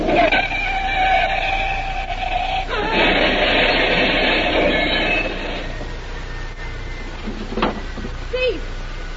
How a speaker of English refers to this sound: What happened? A car hit the big tree, smashed to pieces.